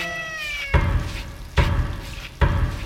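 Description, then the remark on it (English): A single drawn-out meow with a falling pitch from a black cat named Lucifer, followed by three loud, evenly spaced thumps or booms over a faint rumbling background. “And bring Lucifer thy black cat.”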